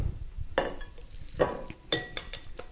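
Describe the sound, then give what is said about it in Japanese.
Tarako (cod roe) and squid pasta is served onto a plate with utensils, making a few soft scraping and stirring sounds with light clinks of metal against the dish, fairly quiet, with no one talking. “じゃあこれをお皿に盛り付けて、”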